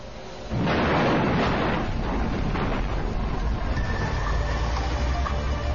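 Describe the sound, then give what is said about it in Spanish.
A mine blast erupts suddenly after a brief quiet moment as mine headings 18 metres wide and 18 metres high are drilled and blasted, a deep booming explosion that rolls into a long, heavy rumble of falling rock, slowly easing but still roaring for several seconds. “Perforamos y explotamos las cabeceras de mina de 18 metros de ancho y 18 metros de alto.”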